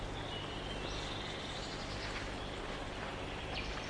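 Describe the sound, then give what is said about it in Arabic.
Faint chirps from birds in flight drift over a steady outdoor hiss as the sun rises and the air turns warm, a few thin high calls scattered through the background with no one talking. “الحمد لله رب العالمين، أشرقت الشمس وأصبح الجو دافئا، الطيور مسرورة وهي تطير.”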